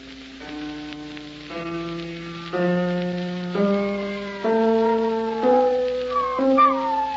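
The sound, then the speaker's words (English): A big, fat spaniel howls along with a piano during a piano lesson, drawn-out wavering cries following a slow run of stepping notes, fairly loud over a faint steady hiss. “I remember the wife's dog, big, fat spaniel it was. He was howling along at the piano the way he always did.”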